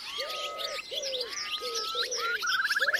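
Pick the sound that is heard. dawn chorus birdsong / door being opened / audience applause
dawn chorus birdsong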